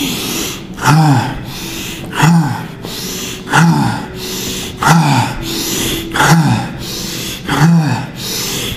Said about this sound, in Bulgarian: сега, при това простичко дишане, в което можеш да оставиш всичко да се разтвори, просто дишай.